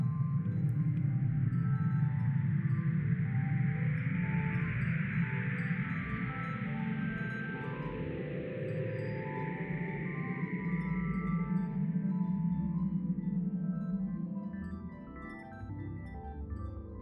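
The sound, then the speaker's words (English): A sonification of gravitational lensing data from Hubble and ground-based telescopes, each data layer limited to a frequency range and given different pitches: layered electronic tones drone and swell, a low humming bed beneath a higher shimmering band, with scattered faint chiming notes, steady throughout before easing slightly at the end. “In converting this into sound, each layer of data was limited to a specific frequency range, and different pitches were assigned to produce a range of tones.”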